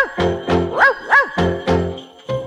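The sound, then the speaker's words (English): Goofo, Santa's dog, barks on Christmas Eve in a quick series of about seven loud yaps with bending pitch, one after another, pausing briefly before a final bark. “On Christmas Eve when all is dark, children hear Goofo bark.”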